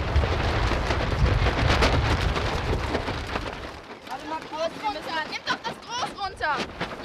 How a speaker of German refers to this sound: Jetzt stehen die Jungen aber wieder am heimischen Strand, an der Elbe in Wedel. Der Wind bläst ihnen voll ins Segel.